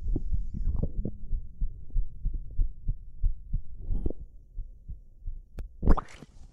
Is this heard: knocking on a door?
no